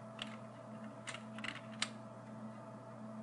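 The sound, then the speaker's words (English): A handful of crisp presses of the delete key on a computer keyboard, removing selected white areas from an image, irregularly spaced over a few seconds, with a steady low electrical hum in the background and no talking. “Alright, so you want to click on the white area, and you want to press delete on your keyboard. I'm just going to do that for all the white spots.”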